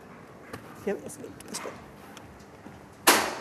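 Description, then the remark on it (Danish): A few sharp, irregular knocks on a door during a short radio interview, the last one loudest, with faint talking in between. “Gidder du også bare ikke banke en bitteliten stund?”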